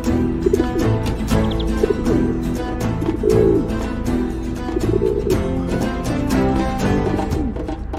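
A dove coos repeatedly in low, soft, throaty phrases, set against a dense, busy background with frequent sharp clicks and taps; no one speaks.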